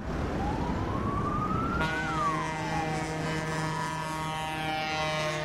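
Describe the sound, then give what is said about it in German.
Vehicle horns blare in long, steady blasts over a loud traffic rumble in central Berlin, where several thousand farmers with tractors are blocking traffic, while a siren glides upward and back down through the din. No one speaks. “Es wird ordentlich gehupt in Berlin.”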